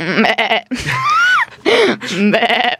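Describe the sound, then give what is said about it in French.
A person imitates a goat's bleat in several loud, wavering bursts, nasal and quavering, with brief pauses between them and no other voices alongside. “Alors, tu as soit le chien, soit la chèvre. Comme tu veux. Ah, allez, c'est la dommage, chèvre, je préfère. Vas-y.”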